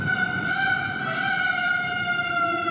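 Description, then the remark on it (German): A mechanical rooster figure on the turret at the left of a clock crows, as it does three times at 12:30 midday when the apostle figures pass Christ, in one sustained, reedy, pipe-like tone that holds a steady pitch for a few seconds. It is fairly loud, with no voices. “Ja, und auch der Hahn kräht seitdem wieder 3-mal, wenn die Apostel hier mittags um 12:30 an Christus vorbeiziehen.”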